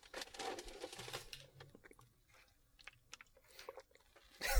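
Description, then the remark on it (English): Someone drinking water from a jug, with wet mouth noises and gulping clicks, a louder sloshing burst at the start, quieter scattered swallows in the middle, then another burst at the end. “Got to get that sweet surround sound on me drinking this jug of water.”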